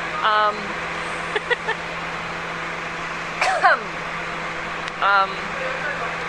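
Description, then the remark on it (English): A steady, low idling engine rumble fills a bus interior with a constant hum, broken by a few short bursts of muffled voices and brief clicks. “Or at least I think I'm going out to Rexdale because this bus isn't going anywhere and I'm late.”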